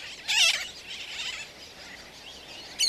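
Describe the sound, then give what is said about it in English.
A colony of black and white terns on a tiny island near Florida calls: a loud, harsh, raspy cry near the start and another at the end, over a steady wash of overlapping bird chatter. “The colony resounds with their calls.”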